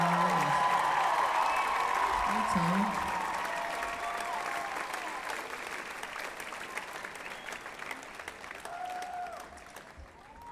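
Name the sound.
audience cheering and applauding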